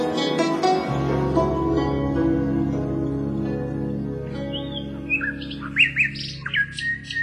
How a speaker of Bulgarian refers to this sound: Господ Бог ли те праща, моя малка птичко? Само ти не си ме забравила в сетния ми час. Попей, Славичко. Ти стоплиш ледената ми душа.